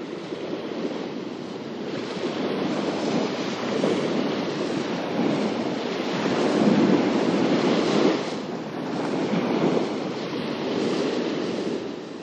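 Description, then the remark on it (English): Hudson River water washes steadily against the shore at Stuyvesant, Columbia County, New York, in slow, rolling swells, a continuous broad rush rising and easing every few seconds, with no voices present. “And we listen to the sounds of the river from further north in Columbia County's Stuyvesant.”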